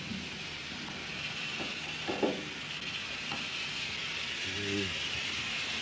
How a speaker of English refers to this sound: Bit of a steam leak, some.